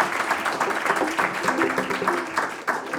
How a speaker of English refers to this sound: I want to, you can always applaud for tradition.